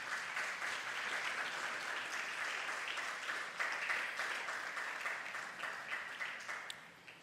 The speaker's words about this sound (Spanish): Dele una ofrenda de palmas.